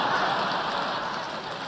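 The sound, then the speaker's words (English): An audience applauds, a dense, steady wash of many hands clapping that holds at an even level for the whole moment, with no voices over it. “You applaud that.”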